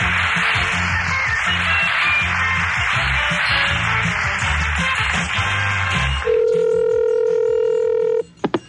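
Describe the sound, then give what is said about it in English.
A telephone line being dialed as a radio game show phones a listener: several seconds of busy, noisy handling sound, then a steady, loud dial tone holds for about two seconds before cutting off, followed by a couple of brief clicks. “The game shows are real. We really call people.”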